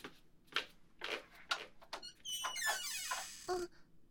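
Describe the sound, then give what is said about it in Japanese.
A door behind a shop counter, leading to the second floor, creaks open slowly, its hinge squealing in a rising, wavering whine after a few soft knocks and thumps of handling, fairly quiet with no voices. “このままカウンターの裏にあるドアから2階に。”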